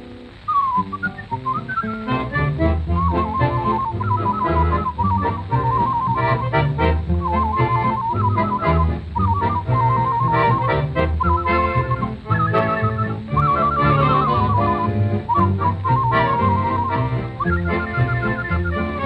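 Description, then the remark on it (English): Someone whistles a lilting melody in clear, sustained high notes with gliding slides between phrases, carried over a steady instrumental accompaniment for about twenty seconds without pause. “But if you'd like to hear some more, I'd be very glad to whistle.”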